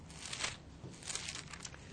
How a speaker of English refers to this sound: He says, as he's turning the pages, Acts chapter 1, Luke is writing.